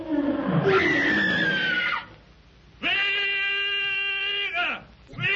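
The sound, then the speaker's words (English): A lion, Numa, gives an earth-shaking roar: two long, drawn-out bellows separated by a brief pause, with the start of a third cut off at the end. “At Numa's earth-shaking roar, Tarzan leaps upward, grasps the trailing vine, and flashes through the branches with breathtaking speed toward Magra.”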